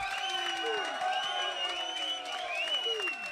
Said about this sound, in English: Can you put your hands together and show some appreciation? Come on, make some noise for the storm.